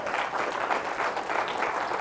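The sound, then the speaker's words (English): A crowd applauds steadily in celebration of a couple's 40 years of marriage, a dense wash of many hands clapping at an even, fairly loud level throughout, with no voices standing out. “It does deserve a round of applause.”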